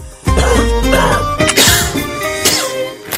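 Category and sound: human body sound, cough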